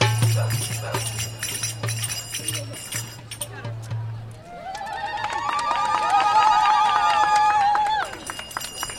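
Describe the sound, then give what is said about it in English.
Finger cymbals played by the dance troupe Dark Side Tribal, performing at a market, clang in quick, repeated strikes, bright and ringing, over a busy murmur of crowd voices, with the metallic ringing growing denser and fuller in the second half. “The clanging of finger cymbals is coming from the dance troupe Dark Side Tribal, just one of the many groups performing around the market today.”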